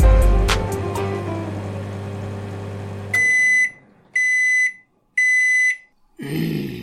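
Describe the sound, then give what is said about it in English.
A smoke alarm sounds three loud, shrill beeps in a steady pattern, each about half a second long with short gaps, following a low rumbling noise that cuts off abruptly. “Do you think that that durian fruit I bought you is setting an alarm off?”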